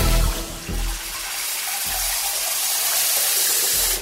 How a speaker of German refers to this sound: Jeden Tag kommt frisches Wasser aus der Leitung. Ganz normal.